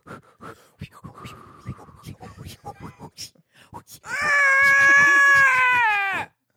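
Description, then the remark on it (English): After a few seconds of talking, a voice breaks into a loud, sustained, wavering wail of about two seconds, imitating a newborn baby's cry, then stops abruptly. “Now, your face said you were imitating the scream of a mother giving birth, but the sound that came out was the baby being born.”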